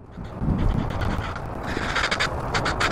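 crows cawing

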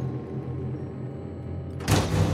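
door closing

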